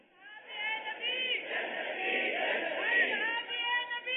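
A large crowd chants slogans in unison, many voices blending into a loud, sustained roar that swells and holds for several seconds with no break.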